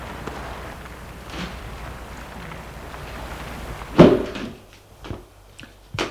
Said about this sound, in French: Il entend le déclic de la porte.